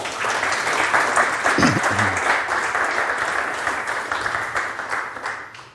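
A crowd applauds warmly to welcome a guest, a dense, steady wash of many hands clapping at once, sustained for several seconds before gradually tapering off. No one speaks over it.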